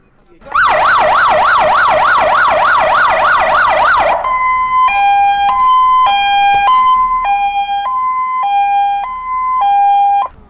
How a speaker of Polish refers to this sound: Tak, to teraz zapraszam tam tutaj do garażu i zobaczymy, jakimi samochodami byśmy wyjechali, jak taka syrena zawieje, dobrze?